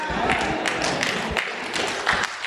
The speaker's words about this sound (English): Not going to get a whole lot of hand claps. Why? Because some folks still holding on to stuff and holding on aughts towards other people.